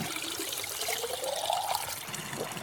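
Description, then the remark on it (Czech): Spring water streams steadily into a water bottle for a few seconds, the gurgling pour rising in pitch as the bottle fills, with a faint splashing hiss behind it and no voices. “Já využiju toho, že mám sebou lahev na vodu.”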